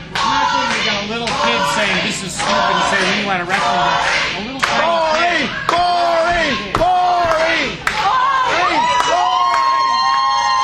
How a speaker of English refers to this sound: Well, Gallows flexes this a little bit. This is what you call a crowd shitting on a match.